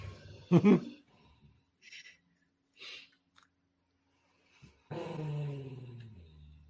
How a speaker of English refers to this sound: Dog is sleeping next to me. Was that the cat? No, it's a dog.